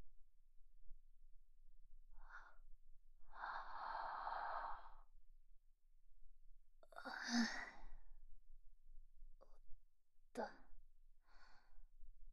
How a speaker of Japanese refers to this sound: あくびが不思議だな。普段人前で眠くなんてならないのに、君の前ではなぜか眠くなってしまう。